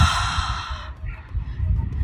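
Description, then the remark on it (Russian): A person breathes out in one long, strong, airy exhale onto glass, like fogging a cold pane, demonstrating the breathy sound of the Arabic letter kha. The hiss lasts under a second, then fades to faint low background. “И вы выдыхаете воздух на стекло и делаете...”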